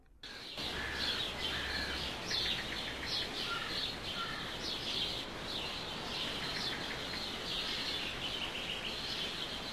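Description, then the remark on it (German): A dawn-style birdsong chorus: many overlapping chirps, trills and whistles from several birds at once, steady and continuous over a soft outdoor hiss, with no one speaking. “Übrigens, genauso kostenlos, aber ebenfalls unbezahlbar wie ein solches Vogelkonzert, ist Gottes Angebot für Sie.”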